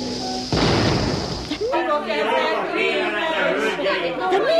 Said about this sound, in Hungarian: Folytonos ágyúzás. Csepelfokánál támadt jéggátat szándékoznak ágyukkal átlövetni, remélve, hogy ha a jégzajlás egyszer rizs találhat, a saját súlyával majd tovább tör, és a város a legnagyobb veszélytől megmenekül.